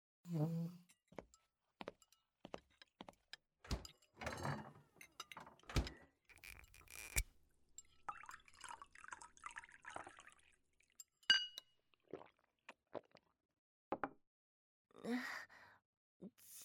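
Red wine glugs and splashes as it is poured into a glass, the gurgling tone rising as it fills, with scattered clinks of glass and soft breaths and sighs around it.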